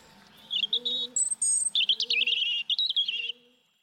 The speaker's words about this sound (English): Robins, tough little bastards there.